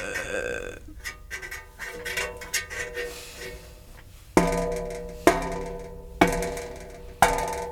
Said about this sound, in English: …, how did you burp?